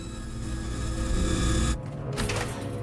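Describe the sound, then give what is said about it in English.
A drill grinds steadily into a safe lock with a dense, buzzing motor whine, briefly dropping away near the end before the rasping drone picks back up. “As he continues to drill, Sarah slips a couple of syringes into her hand.”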